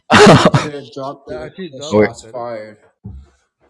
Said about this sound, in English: Excuse me. I was coughing because it just makes me so horny.